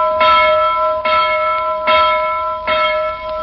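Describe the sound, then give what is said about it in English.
A town hall bell tolls four times at a steady, unhurried pace, each loud strike ringing on with a sustained metallic hum that carries into the next, with no voices present. “Now, woken at last by the out-of-bed sleepyhead, Polly put the kettle on town hall bell.”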